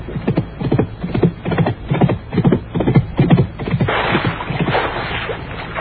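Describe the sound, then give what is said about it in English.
A horse's hooves clop loudly in an irregular, stamping rhythm as the horse bucks and throws its rider into a swamp at Hayes Meadow, followed by a sustained broad splashing rush of water. “The horse just bucked and threw him into the swamp here at Hayes Meadow.”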